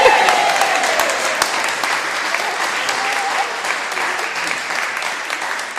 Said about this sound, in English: Give it a big cheer, yeah!